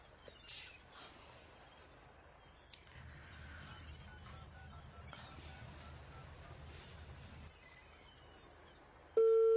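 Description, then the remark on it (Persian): Quiet background hiss and a low hum run for several seconds with no talking, then the loud, steady ringing tone of a call to a mobile phone cuts in abruptly at the very end. “بذار من به موبایل قوقا یه زنگ دیگه بزنم.”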